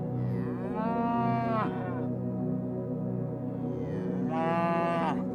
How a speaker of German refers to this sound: Wir beginnen unseren Weg am Rande eines Alpendorfs mit dem Namen Scharnitz. Es liegt in Tirol, denn dort entspringt die Isar. Die Sonne ist bereits aufgegangen und vor dir liegt ein breites Kiesbett. In der Ferne hörst du das Muhen von Kühen.